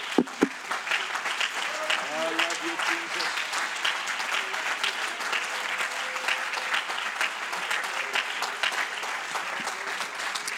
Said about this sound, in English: Why don't you again give the Lord a hand clap of appreciation before you're seated tonight.